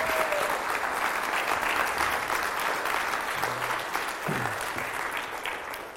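An audience applauds at the close of a Father's Day church service, a dense, continuous wash of clapping that holds its level for several seconds before easing slightly, with no voices rising above it.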